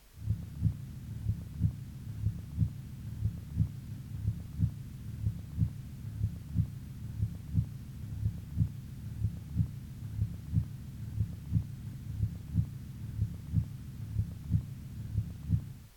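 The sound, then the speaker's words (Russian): Steady, regular heartbeat of a patient with mitral heart disease and signs of congestion in the pulmonary circulation, heard through a stethoscope over the aorta, each beat a pair of low, muffled thumps repeating about once a second against a soft background hum, with no voices. “Сначала тоны сердца над аортой.”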